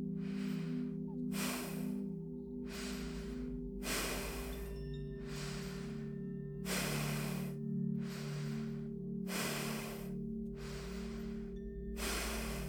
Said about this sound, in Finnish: Hengitä syvään sisään nenän kautta. Hengitä ulos nenän kautta, vetäen vatsaa sisään. Harjoittele hengitystekniikkaa rauhalliseen tahtiin.